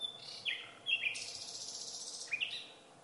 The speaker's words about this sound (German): Oder eine Nachtigall, die singt auch in der Nacht.